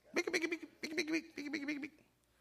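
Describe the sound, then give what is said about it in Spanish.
A person's voice imitates chickens clucking, three short bursts of rapid, choppy clucks in quick succession, fairly loud. “Que nos quedamos como los pollos, ¿eh? Las gallinas haciendo qué cosa.”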